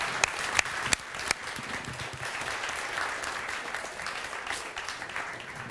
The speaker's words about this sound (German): Eben bei den Proben hat sie immer bei Applaus gebellt. Wollen wir mal kurz applaudieren, mal sehen, ob sie es wieder macht?